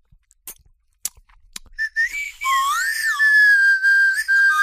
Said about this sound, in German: Und man kann das Ding auch auflutschen. So, jetzt mal, wie schmeckt denn das? Mhm. Weil du hast die Pfeife angeleckt.